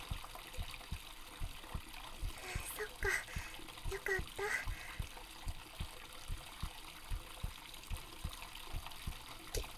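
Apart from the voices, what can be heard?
heartbeat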